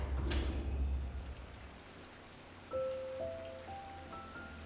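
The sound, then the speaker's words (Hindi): Light rain patters steadily in a soft, even hiss outside a hotel, with a low rumble underneath and one sharper drip early on. A few faint, sustained tones rise in steps toward the end. “हल्की हल्की बारिश हो रही थी।”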